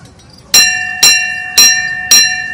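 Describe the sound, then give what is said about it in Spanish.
A railway station bell, the first bell installed at the stop in Málaga, Spain, now at the door of the Renfe Cultural Centre, is struck four times at a steady pace to signal that train number 3 has passed. Each loud metallic clang rings with bright overtones that linger and overlap with the next strike, with no talking. “Y sobre todo que la campana es la primera campana que pusieron en la parada de Málaga”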